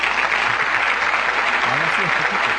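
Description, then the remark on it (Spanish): A steady wash of recorded studio applause, dense crackling claps at an even loudness for the whole stretch, with a faint voice murmuring underneath. “Vamos a llevar a los aplausos aquí del estudio, decimos así.”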